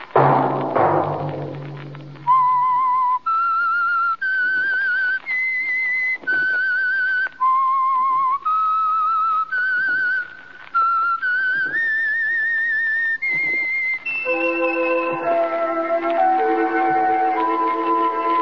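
The whistled theme of the radio program The Whistler, sponsored by the Signal Oil Company: a clear, loud whistled tune carries a slow melody of sustained, stepping notes, then gives way to a soft swell of orchestral music at the end.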